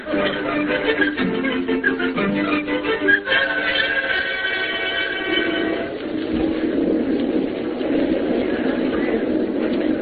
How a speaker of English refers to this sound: Do you like riding in the subway